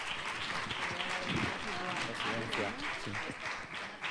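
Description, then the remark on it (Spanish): A crowd applauds a family whose four-year-old child showed the story box made in a workshop: a steady, dense, even wash of clapping for a few seconds with voices mixed in underneath. “Pues nada, un fuerte aplauso para esta familia, por favor.”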